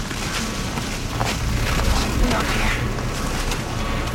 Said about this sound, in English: Oh, I don't like that wiggle. A lot of wind on you guys.